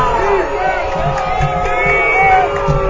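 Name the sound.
football crowd cheering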